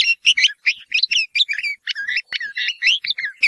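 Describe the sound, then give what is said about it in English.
Scratchy, throaty red-vented bulbul calls chatter in quick, uneven bursts, loud, with brief gaps between harsh notes and no voices. “But the scratchy and throaty calls of the bulbul are not considered by many to be as melodious as those of that well-known bird.”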